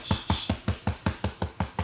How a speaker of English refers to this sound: Who is that knocking? Baby? Who is that in there?